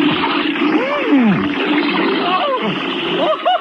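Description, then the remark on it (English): Water splashes and sloshes steadily for a few seconds, fairly loud, with gurgling, swooping tones rising and falling through the churn, as someone gets into a bathtub to test the water temperature. “if he's got a bathtub and I'm leaving and I'm going back to the woods, I might as well put it to good use”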